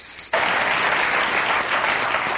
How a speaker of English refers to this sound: That's some weak-ass applause there. I'll take what I can get.